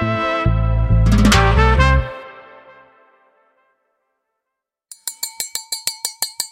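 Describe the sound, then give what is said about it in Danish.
A loud ringing, resonant clang fades out, then after a short silence comes a quick run of about ten bright glassy clinks of glasses in a toast, evenly spaced, with no talking. “Først så vil jeg gerne lige udbringe en skål for det her fantastiske selskab.”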